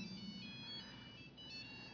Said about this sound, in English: Good thing George Bush is not here today. He didn't like phones going off.